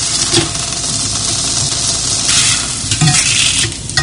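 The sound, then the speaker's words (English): Bacon frying in butter in a skillet: a loud, steady hiss of sizzling fat dotted with rapid crackles and pops, continuing without pause and with no voices. “it a little bit of more flavor by putting it into a skillet with a little bit of butter to it. And now we're going to allow it to cook on one side till it gets a little color.”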